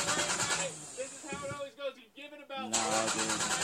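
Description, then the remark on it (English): A voice imitates a car engine cranking over and over without catching, a loud, sputtering, rhythmic grind that briefly drops out midway before resuming. “Well, the car won't start.”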